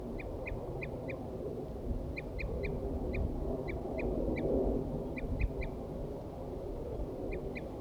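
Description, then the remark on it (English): Wild male crossbills give repeated short, bright calls in clusters of three or four, sounding over a steady low rumble of background noise with no one speaking. “The recording, I had left 4-3 on the stump, and I got the wild birds now attacking him. Wild male mostly.”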